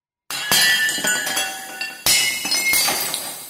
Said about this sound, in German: Dass Scherben Glück bringen, weiß jeder. Auch deshalb wird am Abend vor einer Hochzeit möglichst viel Porzellan zerbrochen. Der Brauch sagt, damit werden Dämonen vertrieben und das Brautpaar hat Zeit des Lebens Glück.